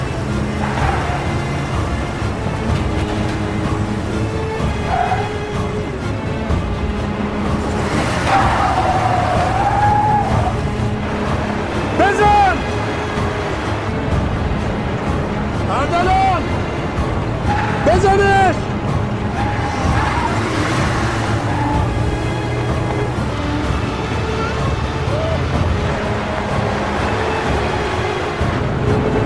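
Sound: cars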